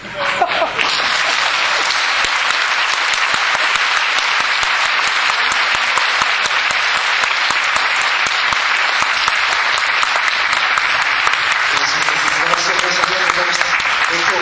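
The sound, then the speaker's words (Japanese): Sustained audience applause for the lecturers at the close of a talk event, a dense steady clatter of many hands clapping for over ten seconds, with faint voices emerging near the end. “素晴らしいお話を聞いている中先生方にもう一度大きな拍手をお願いします。”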